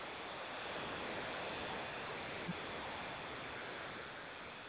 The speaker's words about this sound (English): Deep static.